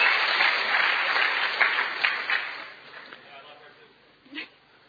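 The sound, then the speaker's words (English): An audience applauds an interpreter, clapping steadily in a dense wash of applause that slowly thins and fades over several seconds, with a brief louder sound near the end. “You must give an applause to my wonderful interpreter.”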